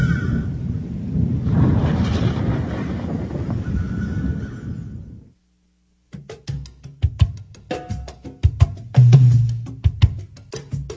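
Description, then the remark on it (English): A deep, rolling rumble of thunder from an approaching storm swells and fades over about five seconds; after a short silence, horse hooves clop sharply and a horse whinnies. “I think a storm's coming.”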